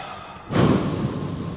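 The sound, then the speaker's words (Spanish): A sorcerer with his eyes closed breathes heavily: a loud, heavy breath bursts in after a quiet moment and rushes on as a long, noisy exhale with no talking. “Comenzó a respirar fuerte.”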